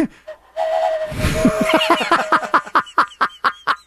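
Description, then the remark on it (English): A steady, mournful train whistle holds one mid-pitched tone amid a burst of steam hiss, then gives way to a rhythmic run of loud chuffing pulses, like a locomotive pulling away. “Is that the sad train whistle?”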